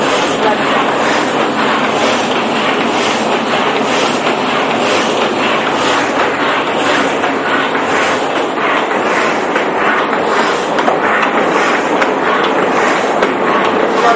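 An industrial paper machine runs without paper in it, loudly and steadily, a dense mechanical roar with a faint, regular pulsing beat repeating about twice a second throughout.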